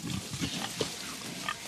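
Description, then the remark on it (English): Several pigs grunt and snort in a quick, irregular series of low, rough oinks, with a busy barnyard hum underneath and no one talking. “Hey, pigs.”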